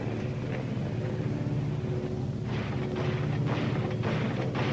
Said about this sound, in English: Guns. Hey, Sergeant, it's guns. Where are they coming from? They're coming from out to sea, aren't they? I think so. You sure? Probable, sure. That's it, then. Must be ships shooting a plane.